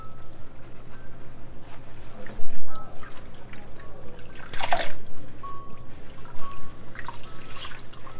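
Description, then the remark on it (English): Water drains out of a bathtub after the plug is pulled, in a steady trickling gurgle, broken by a few louder sloshing bursts, while soft voices murmur in the background. “There down the water goes. Down it goes. The water's running all out of the sink.”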